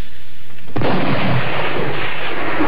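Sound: rifle shot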